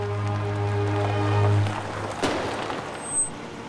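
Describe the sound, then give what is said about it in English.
A car engine hums low and steady as a woman arrives home and pulls up, then cuts off, followed by a sharp thud like a door and a brief high-pitched beep. “Hearing a bang, she gets out of the car and looks at the back wheel, thinking she's got a flat tire.”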